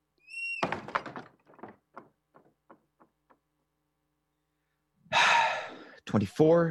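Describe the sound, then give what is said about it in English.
A door creaks briefly, then is shut by Cratchit with a solid thud, followed by a few fading rattles and clicks. Moments later come loud breathy gasps or sighs. “Close the door.”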